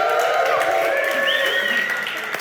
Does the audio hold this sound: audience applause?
yes